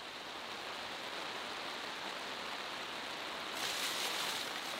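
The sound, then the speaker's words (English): A heavy downpour of steady, dense rain pours down in a continuous loud hiss, growing slightly brighter and heavier near the end, while people are out shooting at targets. No voices are heard. “It's wonderful if you're a duck. It's it's horrible downpour, but you know, I don't really mind shooting at it once in a while because you can't always pick when you might have to shoot.”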